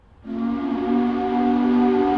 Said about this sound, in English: The shift change whistle still sounds four times a day in Corning, New York. Though these days, the whistle mostly reminds Corning Incorporated's office workers and researchers that it's time for lunch,